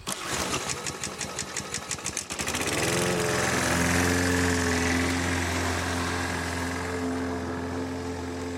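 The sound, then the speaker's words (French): A lawn mower engine sputters with rapid, choppy pulses for about two seconds, then catches and settles into a steady, loud droning hum with no voices. “Rue Guérin, ils avaient tous leur propre tondeuse estivale et souffleuse boréale”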